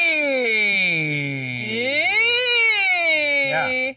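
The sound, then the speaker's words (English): A single voice does a vocal siren warm-up exercise, humming a smooth glide, its pitch sinking slowly, swooping up, then easing back down in one unbroken, loud tone lasting a few seconds. “There's sirens. Oh, this is for you. Sliding vocal pitch up and down.”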